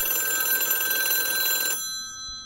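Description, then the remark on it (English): A loud electric telephone bell, the ring used from the 1920s and 1930s until about the late 1970s and 1980s, rings in a rapid, shimmering trill for well over a second, then cuts off abruptly, leaving a brief ringing decay and near silence. “Essentially, the telephone ring, as it came into being in the 20s and 30s, stayed almost entirely unchanged until approximately the 80s, late 70s, 80s.”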